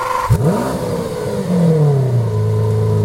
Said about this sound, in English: In the rush to electrify, do we risk losing something special? The whiff of petrol, the growl of the engine, the thrill of pistons letting rip.